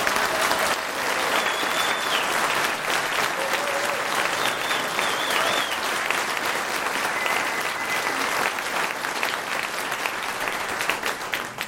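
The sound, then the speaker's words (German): A crowd applauds steadily for about twelve seconds, voting by applause for a contestant named Dario as their favourite. It is a dense, even wash of clapping that stays loud throughout, with a few faint whistles and cheers rising above it. “Und wenn ihr aber sagt, der Dario, das ist mein Favorit gesehen, dann dürft ihr jetzt einmal Applaus für den Dario geben.”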